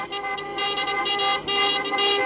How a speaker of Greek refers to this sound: Λίγες ώρες αργότερα, χιλιάδες άνθρωποι θα κατηφόριζαν με τα πόδια προς το παλιό αεροδρόμιο του Ελληνικού, ενώ τα αυτοκίνητα θα χτυπούσαν τις κόρνες τους στο ρυθμό ενός συνθήματος.